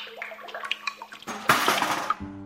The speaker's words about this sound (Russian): Хорошо придумал, да только когда стал воду доставать, наклонился. Тут у него пахтанье по шее да по лицу в колодец и утекло.